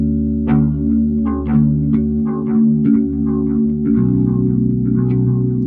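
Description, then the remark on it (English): An electric guitar runs through a modeling ('clone') effects pedal loaded with sounds uploaded from a phone app, with no distortion, giving a shimmering chorus-like tone: a steady series of picked chords rings over a sustained low drone, shifting to a new voicing partway through, with no talking. “And pretty much, I describe them as like clone pedals. It's pretty much like you download an app onto your phone.”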